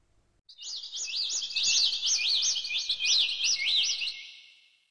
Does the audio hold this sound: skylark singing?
yes